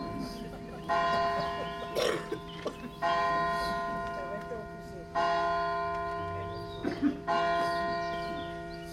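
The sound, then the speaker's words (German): A church bell tolls slowly and steadily, each loud, resonant strike ringing out and fading before the next, four strokes about two seconds apart, with faint background sounds beneath. “Da warte ich erst mal das Läuten an.”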